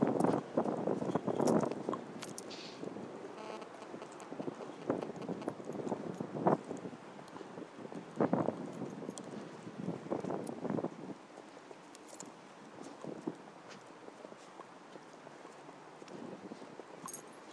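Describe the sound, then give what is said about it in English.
Footsteps crunch across snow in a steady, uneven series of gritty steps, with wind hiss on the microphone, distant aeroplanes, a few birds, and guide dog Vance sniffing, and no talking. “Footsteps crunching.”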